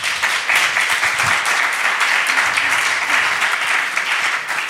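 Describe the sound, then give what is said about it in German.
An audience in a room claps steadily throughout, everyone who has had experience with depression, directly or indirectly, clapping on request: a dense, even wash of many hands applauding at a fairly loud level with no pauses and no voices standing out. “Klatscht mal jeder, der im Raum ist, der schon mal was mit Depressionen direkt oder indirekt zu tun hatte.”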